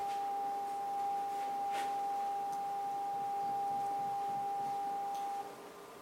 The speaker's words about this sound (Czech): teďka jsem pustil zároveň 4800 Hz. Měla by to být oktáva, ale ve skutečnosti je to oklipovaný, takže to zní hnusně, nehledně na to, že je to libozvučná kombinace tónu.